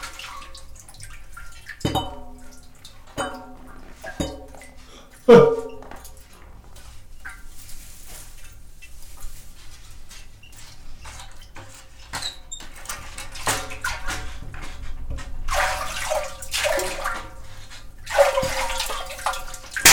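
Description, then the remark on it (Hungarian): Water splashes and trickles in repeated bursts at a sweep well as a man tries to make the water splash, with drips and a few squeaky creaks, growing busier toward the end; a voice is briefly heard in the background. “Egy gémes kútnál vagyunk, és … megpróbálja megcsobogtatni a vizet.”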